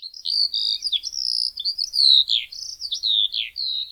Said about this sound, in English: You may not recognize this week's bird on sight, but if you spent time in Hawaii's high elevation forest, chances are you know the call of the Eurasian skylark. Take a listen.